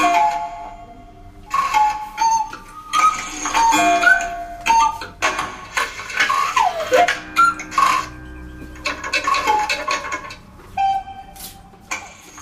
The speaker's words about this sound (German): Die Idee war, einige Klänge von Kuckucksuhren zu nutzen. Die klingen wie ein Kuckucksuhr, die nicht richtig funktioniert.